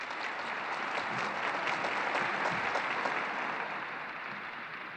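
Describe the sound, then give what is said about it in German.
Sustained applause from a large crowd of the faithful after the Pope's closing blessing at Pope Francis's first general audience, a dense steady wash of clapping that holds at an even level for several seconds with no talking over it. “Die Gläubigen waren wohl etwas verdutzt, dass es so schnell ging und freuen sich jetzt wie gewohnt mit Applaus.”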